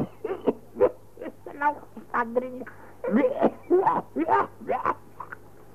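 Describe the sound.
A string of loud, theatrical coughs and hacking throat noises, about a dozen short voiced bursts in quick irregular succession, with a low hum underneath.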